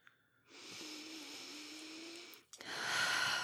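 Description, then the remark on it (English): A slow inhale drawn in for about two seconds, a brief pause, then a long, breathy exhale rushing out, with no talking. “Deep breaths, they help you relax.”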